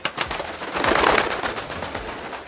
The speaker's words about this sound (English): There was a flash of light, and a bird flew out of his top hat.